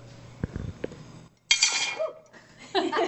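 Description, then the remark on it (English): A freshly cast hot metal ingot is dropped into a little dish of water to quench it, giving a sudden, bright sizzling hiss that fades within half a second, then a second shorter hiss follows; a few soft knocks come before it. “You just dropped it into a little dish of water. That's all that was.”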